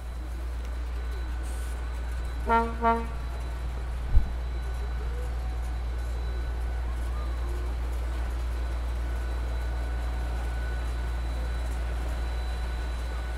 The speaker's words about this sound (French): Génial. Bien, on va prendre le son du bateau qui passe. Vas-y, vite.